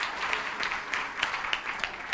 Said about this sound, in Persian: مرسی مرسی، تشویقش کنیم بچه، واقعا کار بزرگی کرده.